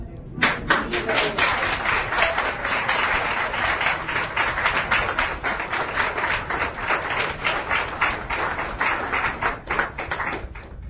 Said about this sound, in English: Any questions? Come on, I want to clap too.